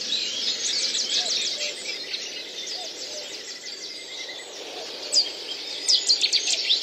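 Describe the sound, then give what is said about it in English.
A Cetti's warbler sings in a reed bed in Newport, Wales: sharp, high chirping notes over a steady wash of background birdsong, ending with a couple of loud, explosive bursts. “for the Chetty's warbler, another kind of a bit of a Welsh tink to it, it kind of goes, it really does shout out”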